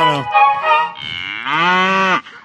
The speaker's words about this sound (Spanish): La vaca muge, hombre.